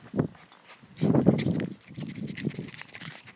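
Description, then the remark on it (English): Dogs playing boisterously without barking: a burst of scuffling and thumping paws, a loud flurry of tussling in the middle, then lighter shuffling and pattering, with no voices. “They're actually playing like mad. I'll just let you listen.”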